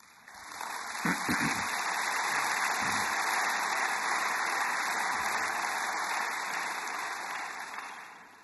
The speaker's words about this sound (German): Applaus